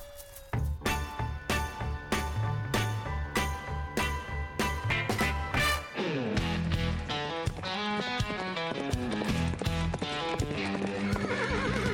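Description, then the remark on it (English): A horse whinnies over a steady run of clip-clopping hooves, loud, with the rhythmic clatter continuing throughout and no one speaking. “Are you looking for a place to saddle up, ride free, and gallop into adventure?”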